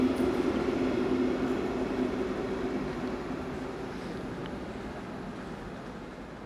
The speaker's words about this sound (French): Je fais signe au train, parce qu'il n'y a pas de raison que le train, on lui fasse pas signe. On fait signe aux gens, mais le train, en fait, est-ce qu'il a une âme?